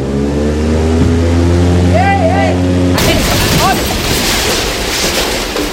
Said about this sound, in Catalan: 15 dies després de l'inici de la guerra, viatgen a bord d'una avioneta rumb cap a Barcelona. La benvinguda a terres catalanes és una mica accidentada. Quan sobrevolen la frontera, el motor de l'avioneta falla i s'estavella.